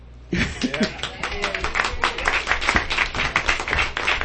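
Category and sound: crowd, audience clapping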